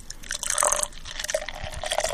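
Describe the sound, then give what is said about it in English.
Beer pours from a can of Guinness Draught into a glass, a steady gurgling splash with fizzy hiss that carries on for a couple of seconds with no voices. “I'm going to go ahead and pour it”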